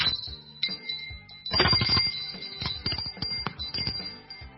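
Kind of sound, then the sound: household object, doorbell ringing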